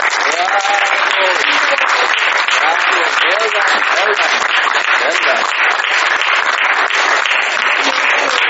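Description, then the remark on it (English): A crowd at a retreat applauds everybody who participated, loud and steady for several seconds, a dense wash of clapping with faint cheering voices rising through it now and then. “I would just really like to request you that we give a random applause to everybody who participated.”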